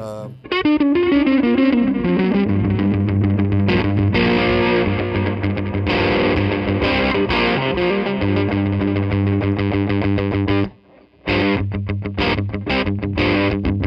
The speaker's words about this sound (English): So that's my overdrive. That's it's a tube pedal. It's by a company called Lightning Boy Audio. Okay. They're out of Buffalo, New York. It's all hand wired.